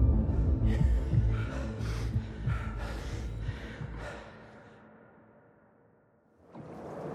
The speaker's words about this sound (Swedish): … kippar efter luft.